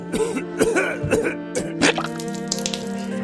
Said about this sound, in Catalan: Sí, noi, arriba la tos i al cap de poc la tos ve acompanyada de sang.